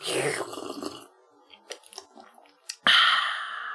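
Slurping of tea: a wet, noisy sip at the start, a few small mouth clicks, then a loud, drawn-out slurp to finish.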